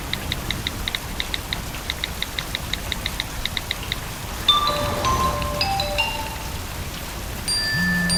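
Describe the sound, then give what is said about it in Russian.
Steady rain hisses and patters throughout, heard from under the roof of a bus stop, with a quick run of high electronic beeps at first, then scattered bright tonal chirps and a low hum near the end. “мы на остановке от дождя прячемся”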